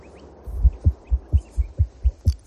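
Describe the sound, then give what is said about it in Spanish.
A baby's heartbeat on an ultrasound monitor: quick, steady whooshing thumps, about four or five per second, over a soft background hiss, with no voices. “El del latido de un bebé.”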